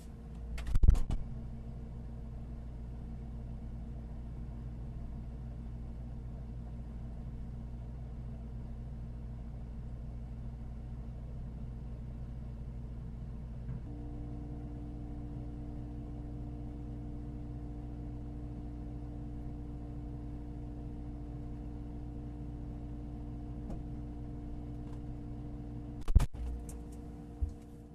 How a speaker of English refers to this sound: The inside of a refrigerator.